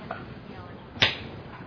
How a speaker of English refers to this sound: How are you hitting yourself, though? Is it an open hand or a fist? Open hand.